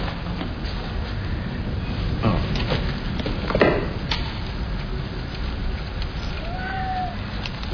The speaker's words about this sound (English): Oh. Is it a cat? Yes, it is now.